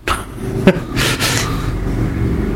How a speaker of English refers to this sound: And as we hear cars going down the street.